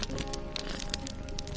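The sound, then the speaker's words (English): Steady crackling of an open fire, with dense irregular pops and snaps over a soft continuous hiss. No voices are heard. “In an old chair by an open fire.”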